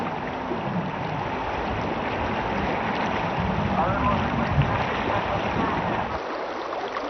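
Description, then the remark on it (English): A boat moves along the Yellowstone River, its low motor drone blending into the steady rush of water and wind for several seconds, fairly loud, easing slightly at the end. “Sometimes I have to share the water.”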